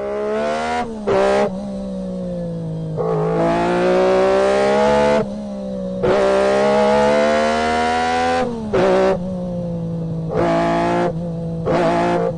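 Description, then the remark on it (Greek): A small Austin Metro car engine idles steadily, then revs up in repeated bursts, rising and falling in pitch, with no talking. “Πάμε λίγο στην Αγγλία. Ποιο θα πεις? Το Austin, το μετρό.”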